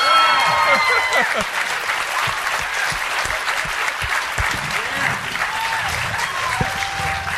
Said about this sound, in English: And there was some applause for the Walsh Company credit, the producer of the film.